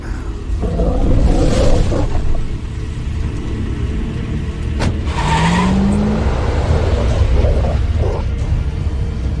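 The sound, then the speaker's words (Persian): A car roars along at speed, its engine rumbling loudly and steadily throughout, with a rising whine and rushing road noise suggesting hard, fast driving. “ببین، روندن این ماشین اونم تو این حالت کار راحتی نیست.”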